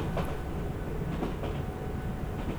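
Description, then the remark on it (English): A steady low rumble of a moving train carriage, with faint rhythmic clatter and creaks from the wheels and coach, continuous throughout with no talking. “I'm sure the snack bar door at the front of the train is still open.”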